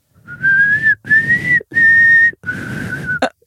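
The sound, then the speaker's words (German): Someone whistles a short four-note tune, each note steady and separated by brief pauses, with a lot of breathy air noise underneath that makes the whistle sound shaky and strained. “dieses Pfeifen gehört, was die Leute oder was Katniss Everdeen bei den Hungerspielen”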